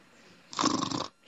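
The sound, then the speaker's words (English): A person imitates a snore: one short, loud, rasping breath lasting about half a second, with no talking, and the start of another sound cut off at the end. “Instead of meditating, you'll be snoring.”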